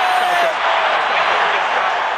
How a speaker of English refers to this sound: See, the crowd go wild just because it was heads.